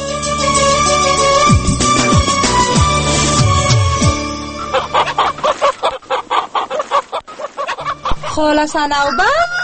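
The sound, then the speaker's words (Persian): Chickens cluck in a coop, short repeated calls layered over a busy, loud backdrop, with a voice joining near the end. “بیا در مرغانچه هستم.”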